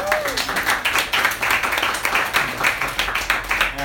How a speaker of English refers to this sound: Well, hasn't tonight been wonderful? Yes. Round of applause.